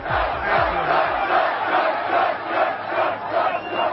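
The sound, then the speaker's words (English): A large crowd at a Donald Trump rally in Wisconsin roars and shouts continuously, a dense wall of cheering voices swelling in waves, loud throughout, with a few low thumps near the start. “Donald Trump today at a huge rally in the Badger State.”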